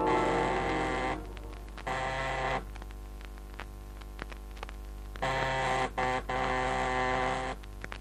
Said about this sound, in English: After a couple of minutes of pressing the gold-plated buzzer, I took out my skeleton keys.